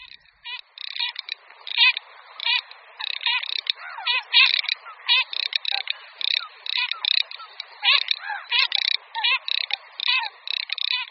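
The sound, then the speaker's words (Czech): A garganey duck gives dry, crackling rattles in quick repeated bursts, a steady clicking pulse over about eleven seconds, with softer wavering whistles drifting underneath. “Šírka modrá.”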